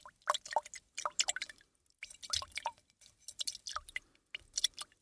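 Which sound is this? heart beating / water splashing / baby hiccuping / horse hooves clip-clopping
water splashing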